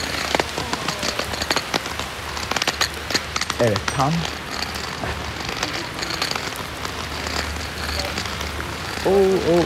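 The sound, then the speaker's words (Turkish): Heavy rain pours down steadily, a dense patter of drops striking a hard surface, while a man speaks briefly over the downpour. “evet, şu an yağmurumuz hızlandı. Duyuyorsunuz sesini.”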